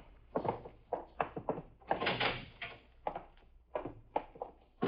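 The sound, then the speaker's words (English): A door swings shut with a solid thunk, surrounded by several quick knocks and rattles of handling, with no one speaking. “Lock the door.”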